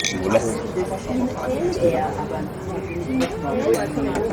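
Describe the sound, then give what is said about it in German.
Lively beer garden ambience at a public restaurant in the Stadtpark in Vienna, Austria: a steady murmur of many overlapping voices, with a few sharp glass clinks ringing out now and then above the chatter. “März, dass ich mich selbst in eine öffentliche Gaststätte samt zugehörigem Gastgarten begebe.”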